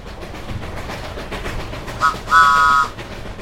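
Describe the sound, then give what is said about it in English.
A steam engine, Duck the Great Western Engine, chugs along to Edward Station with a steady rumbling rhythm, then gives a short whistle toot followed by a longer, higher whistle blast before the chugging carries on. “Duck, the Great Western Engine, puffed sadly to Edward Station.”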